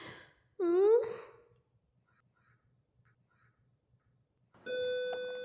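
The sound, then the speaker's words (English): A loud, steady bell rings for about a second near the end, sounding like an electric school bell, after an earlier short rising vocal groan and a stretch of near silence. “Come on, bell, ring.”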